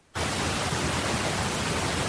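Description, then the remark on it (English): A steady, dense hiss of pink noise, with more bass and treble than white noise, switches on abruptly and holds constant, a full, rushing sound like a heavy waterfall with more low rumble than plain static, no voices. “Whereas pink noise is more like a waterfall. It's got more bass and treble.”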